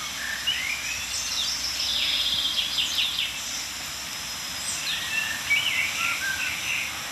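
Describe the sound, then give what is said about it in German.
A blackbird and a chaffinch sing, their phrases overlapping in bright, repeated bursts over a steady outdoor hiss, with no one speaking. “Amsel und Buchfink, wie immer omnipräsent.”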